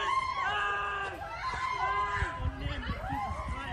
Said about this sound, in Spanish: Un estudiante ha grabado un vídeo con su teléfono móvil el momento en el que el agresor irrumpe con un cuchillo en el parque y su ataque. De fondo se escuchan gritos desgarradores.